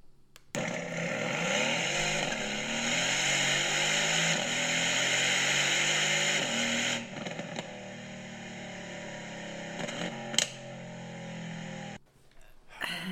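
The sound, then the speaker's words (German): A sports car engine revs loudly while standing still, its pitch climbing and falling in several sustained swells over about eleven seconds before cutting off, with a brief sharp pop near the end. “Das ist jetzt ein Video, wo es wirklich die ganze Zeit nur um den Sound des Autos geht.”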